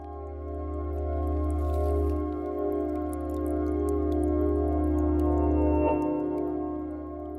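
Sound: dripping water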